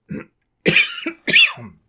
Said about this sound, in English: big believer in coughing noisily in our presentation. I can't even say words.